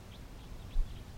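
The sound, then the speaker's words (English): Faint, short, upslurred kip notes from a group of four Type 2 crossbills, about five of them in an uneven series over a low background rumble, with a brief dull thump midway. “And about 15 minutes ago, a group of four Type 2 crossbills arrived on the scene.”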